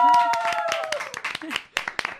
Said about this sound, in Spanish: vamos a dar un aplauso súper fuerte desde Valencia Underground también